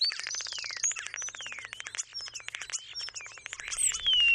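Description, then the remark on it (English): A common starling sings a busy, unbroken medley of rapid clicks, rattles and sliding whistles. It sounds clear, with no voices. “Starlings, at first glance, are a plain black monochrome little bird.”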